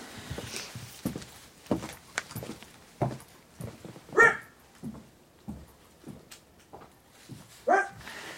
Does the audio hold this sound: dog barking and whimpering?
yes